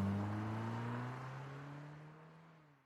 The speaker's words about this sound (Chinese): 开车。 司机发动汽车，很快消失在车流中。